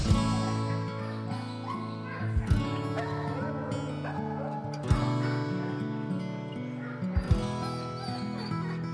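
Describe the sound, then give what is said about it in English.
Many shelter dogs at a dog training center in Mandarin bark and whimper together in a continuous, echoing chorus, with sharper, louder barks breaking through every couple of seconds and no clear talk. “There's little doubt that at least one cat and these dogs can coexist.”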